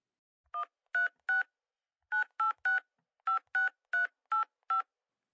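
telephone keypad dialing tones

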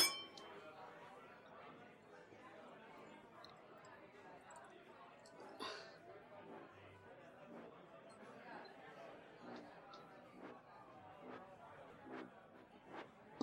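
glasses clinking

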